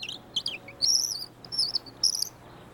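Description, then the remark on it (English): Several high, bright bird chirps and trilling whistles come in short bursts over a soft outdoor hiss, with brief pauses between calls and no talking. “Now, let's give those birds a call and let them know there's no place like home.”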